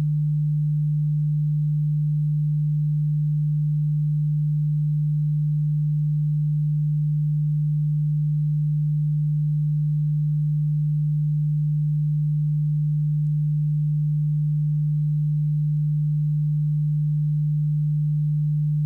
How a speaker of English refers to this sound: I have chosen two arbitrary tones. In your right ear, I am going to play a frequency of 150 Hz.